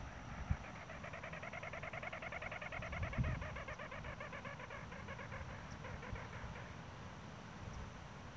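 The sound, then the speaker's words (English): A bird about 3 feet away, responding to playback, gives a harsh, growling call made of rapid buzzy pulses that run continuously for several seconds, over a steady background hiss with no talking. “responds to playback, the spirit using the same growl call.”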